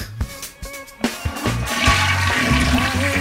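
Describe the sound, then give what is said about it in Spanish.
A toilet flushes: a few clunks of the handle, then a loud rush of water that swells and keeps roaring steadily to the end, with no voices. “Dale a la cisterna cuando se lo merece, hombre.”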